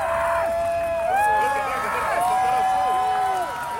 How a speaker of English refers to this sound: People were going crazy. And I mean, it was like for the whole 4 minutes in totality, continuous yelling, continuous screaming, continuous crying. I think you can hear somebody say, "I think I'm about to cry."